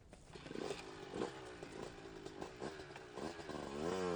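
vehicle, motorcycle engine riding away

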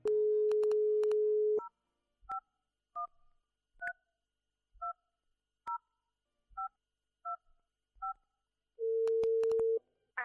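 signal or alarm, telephone call ringing tone

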